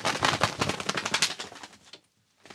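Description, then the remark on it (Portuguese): Rapid, papery fluttering beats like a bird's wings flapping, made with a cloth glove on each hand and no feathers, running fast and steady for about two seconds before trailing off, then one faint flap. “Eu tô com uma luva de tecido, certo? Certo. Uma em cada mão, certo?”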